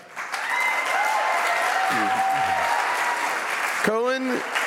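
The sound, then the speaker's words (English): A crowd applauds steadily with dense clapping as a graduating senior is introduced as guest speaker, while scattered cheers and whoops from his own cheering section rise over it, including a loud shout near the end. “As you can hear, he has his own cheering section over there.”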